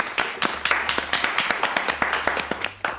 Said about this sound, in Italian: Questo mio amico si chiama il signor ChatGPT. Un applauso.